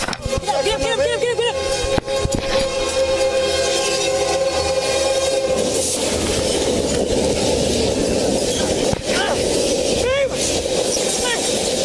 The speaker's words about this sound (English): began to come down, signaling an oncoming train.